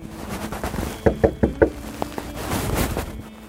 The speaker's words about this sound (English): I knock on the door three or four times before anyone answers. I wait almost 3 minutes.